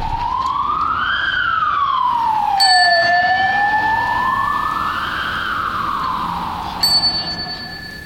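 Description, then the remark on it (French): A loud police siren wails in slow rising and falling sweeps over a steady roar of heavy traffic with cars driving very fast, heard while walking into a town centre, with two brief ringing, bell-like tones cutting in partway through. “c'est terrible parce que tout d'un coup, il y a beaucoup de trafic, des voitures qui roulent très vite, les sirènes de la police qui sont comme un oscillateur, ça me fait bizarre.”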